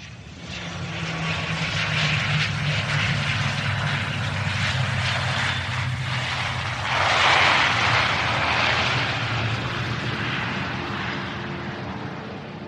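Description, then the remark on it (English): A propeller airplane engine drones steadily and loudly throughout, a low humming roar with a brief swell in intensity midway, with no voices; the plane arriving at Firenze Airport. “As Robert Langdon stepped off the plane in Firenze Airport”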